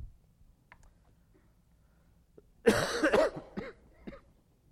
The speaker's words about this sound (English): Excuse my occasional cough this morning. I think I inherited the contagion that's been going around my household for the past few weeks.